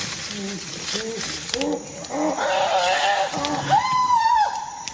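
chimpanzees screaming

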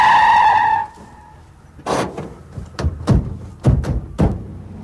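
car approaching and skidding

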